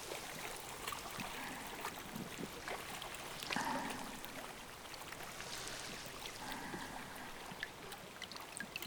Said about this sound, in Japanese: いい音でしょう。川のせせらぎ。